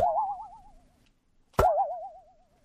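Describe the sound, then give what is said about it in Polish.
Two cartoon boing sounds standing for a kangaroo hopping, each a wobbling, springy tone that warbles and slowly fades; the second begins with a sharp thump. No one speaks. “A ciekawe swoją drogą, czy kiedy kangur skacze, to słychać na przykład taki dźwięk.”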